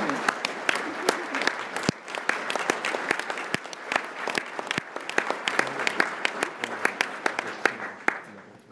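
A standing conference audience at the Mobility 21 summit applauds the board, executive steering committee, staff and volunteers for several seconds, a dense wash of many hands clapping with sharp individual claps cutting through, holding an even level before tapering slightly at the end.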